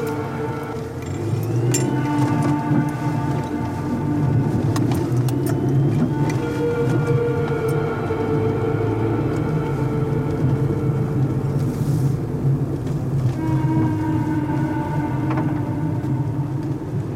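A car engine hums steadily, its pitch rising and falling as the car is moved aside for an approaching bus, with a low road rumble underneath and no talking.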